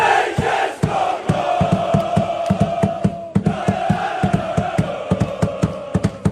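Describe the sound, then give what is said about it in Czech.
A large stadium crowd of football fans at a Czech national team match chants loudly and steadily, with rhythmic drum beats or claps punching through the roar at a regular pace. No individual speech stands out. “Při utkáních reprezentace se nově fandí naplno.”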